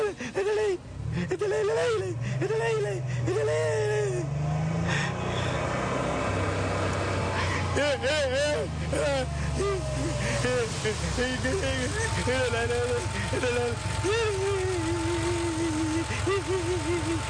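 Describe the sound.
A car engine hums steadily at low pitch as the driver stops the car on a road, slowing and settling into a continuous idle, with a person talking over the rumble throughout.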